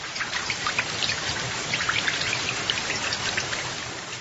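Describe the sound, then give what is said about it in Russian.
Steady rain patters down during a thunderstorm, with scattered individual drips of water coming through a straw roof and landing sharply on hay inside a hay shed; a dense continuous hiss at moderate volume with no voices. “Кое-где сквозь соломенную крышу закапала вода на душистые сено.”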